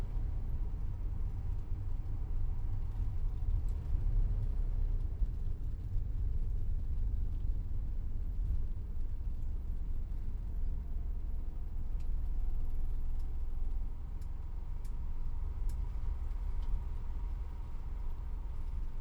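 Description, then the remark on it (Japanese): A steady, deep engine rumble fills the inside of a moving bus, droning on evenly throughout with faint rattles and ticks above it and no one speaking. “バスが止まったら立とうね。”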